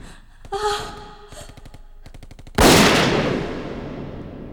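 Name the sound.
gunshot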